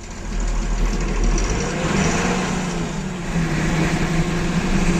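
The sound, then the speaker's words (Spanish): A motorboat engine runs steadily, a continuous low droning rumble with a slight throbbing texture and a hiss above it, fairly loud and unchanging throughout, with no voices. “Si Bob Esponja vive en una playa con barca a motor...”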